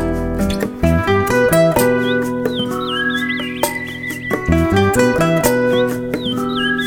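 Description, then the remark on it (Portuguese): Light songbird warbles and quick chirps flutter high above steady instrumental music with sustained chords, the bird calls brief and fairly faint, mostly in the middle of the passage. “Quando um pássaro trancado salta e canta, é gritando pra pedir a liberdade.”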